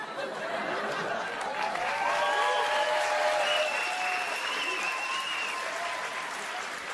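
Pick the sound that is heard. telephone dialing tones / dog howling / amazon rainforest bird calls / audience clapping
audience clapping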